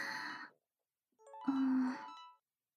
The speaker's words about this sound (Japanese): 私の電話の着信だ。